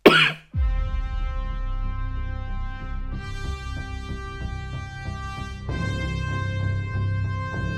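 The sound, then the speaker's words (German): A single loud, wet cough bursts out at the very start, immediately followed by several seconds of steady, sustained organ-like tones that shift in pitch. “Mit einem feuchtfröhlichen Huster.”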